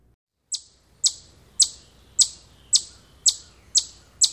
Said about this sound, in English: Chipmunks also have an alarm call that sounds much like a bird, but can be repeated tediously for several minutes. Listen for a few moments.